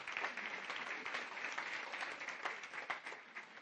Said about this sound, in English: Give them a good clap offering, would you? Come on.